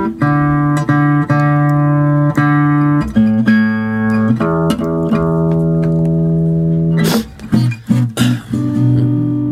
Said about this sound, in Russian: Это строй проверяю. Новый струн поставил по случаю праздника.